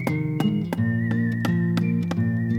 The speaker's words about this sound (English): So the second little pig started to build his house, banging and hammering and whistling as he worked.